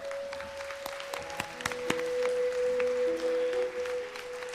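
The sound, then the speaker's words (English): A church audience claps together for a man who has just prayed to accept Jesus, in a steady, scattered burst of applause, many hands at once, with a sustained organ-like tone holding underneath throughout. “Let's give him a hand clap, yeah.”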